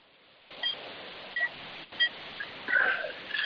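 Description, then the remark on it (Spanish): A hospital patient monitor, heard over the phone, beeping: several short, high-pitched electronic tones at uneven intervals over a steady background hiss, with no one talking. It monitors a coronavirus patient, showing oxygenation of 96 and a pulse of 89-90. “Aléjate el teléfono, vamos a escuchar el aparato ese que tienes de fondo.”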